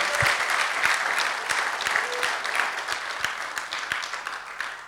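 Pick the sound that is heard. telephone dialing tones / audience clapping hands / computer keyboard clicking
audience clapping hands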